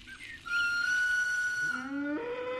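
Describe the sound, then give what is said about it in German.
A loud, sustained train horn blast with a steady, bright tone that drops to a lower, deeper pitch partway through and holds, sounded as a train full of schoolchildren departs from the station. No voices are heard. “Hört ihr? Das Zughorn. Der Zug fährt aus dem Bahnhof.”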